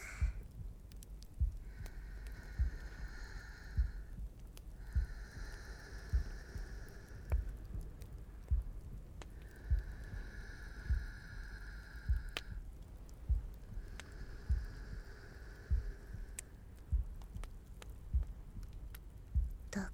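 A muffled heartbeat heard during a hug thumps steadily about once a second throughout, with soft intermittent airy tones drifting over it. No one speaks.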